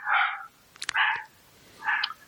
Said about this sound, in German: Also, schön, jetzt bellen die Hunde gleich. Warte, wir müssen kurz warten.